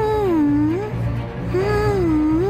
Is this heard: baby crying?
yes